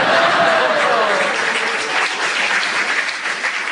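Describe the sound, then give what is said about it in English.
Steady, full applause from a studio audience at a panel game fills the whole stretch, a dense wash of many hands clapping at once, loud, with a faint voice briefly audible beneath it. “As they clapped, I will give you a point for that.”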